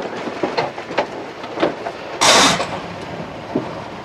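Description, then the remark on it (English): A Jeep engine runs with an uneven mechanical clatter, then a short, loud, harsh grinding burst breaks in as the ignition key is turned again while the engine is already going. “If the engine's humming, it's already started.”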